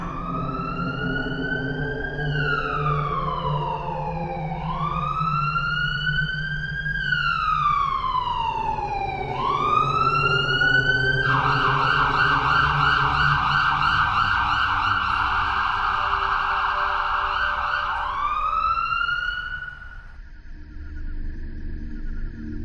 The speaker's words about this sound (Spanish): A la una de la mañana, la sirena de una ambulancia rasgó el silencio que estaba bien cargado de tensión.